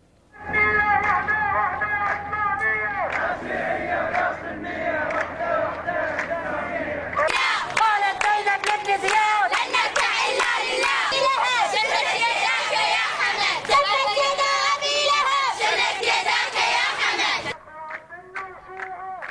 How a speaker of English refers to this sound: The women shouted slogans against Bahrain's King Hamad bin al-Khalifa.